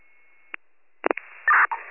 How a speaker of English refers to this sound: Radio static.